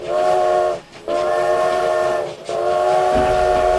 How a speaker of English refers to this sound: Out to the west, a train carrying several boxcars roaring forward at 45 miles per hour. And to the west, another train, also carrying several boxcars, also roaring forward at 45 miles per hour. Both conductors lay on their whistles,